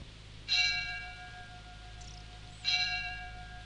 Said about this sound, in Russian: Вечером, когда начнут звонить колокола.